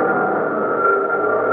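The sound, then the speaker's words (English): Construction machinery on Saipan drones steadily, a loud, continuous engine-like hum with a whirring midrange tone that holds even throughout, with no voices over it. “Construction sounds.”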